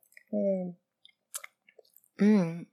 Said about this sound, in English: What is that? It's whiskey, isn't it? Oh, you're the best. I'll take another sip.